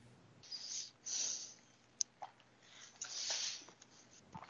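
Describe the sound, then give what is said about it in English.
A dove's wings flutter in several soft, airy bursts as it nearly flies in through an open door, with a sharp tick or two between them, over a quiet hum and no talking. “Wow, a dove almost flew in here.”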